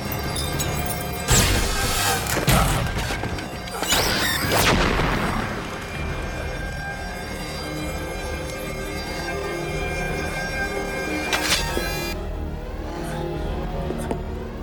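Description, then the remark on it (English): Video game sound effects: a string of loud booming explosions and sharp crashing bursts like shattering glass, followed by a long ringing rumble and one more crash near the end. No one speaks. “Okay, that glass shouldn't break like that. Oh well, exploded it.”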